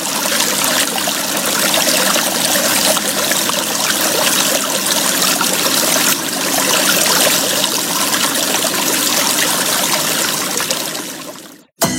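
Steady rushing of river water flowing over rocks, a dense, continuous wash of noise that holds level for about twelve seconds before cutting off abruptly. No voices.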